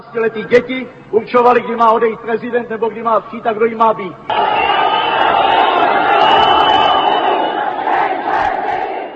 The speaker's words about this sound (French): Les sifflements et les cris répétés « Nous ne sommes pas des enfants » ont coupé la parole du chef communiste pragois